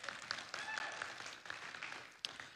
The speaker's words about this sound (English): You can go ahead and clap for him. That's okay.